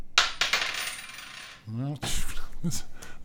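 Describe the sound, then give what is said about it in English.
A coin clinks and rattles as it's tossed and lands, with bright metallic rings and a short spinning clatter, followed by a brief voiced sound and another quick metallic tap. “I don't think this coin is honest.”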